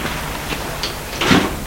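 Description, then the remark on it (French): Luggage being hauled out of a car trunk by a couple: a few soft bumps and rustles, then a louder clunk near the end as a bag is lifted out, with no talking. “Ils sortent du coffre les affaires.”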